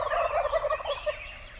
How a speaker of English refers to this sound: In the following recording of a flock of turkeys coming off roost at dawn, listen to the yelps of females, gobbles of the male, and a very low-pitched hum, barely audible, given periodically by the strutting male.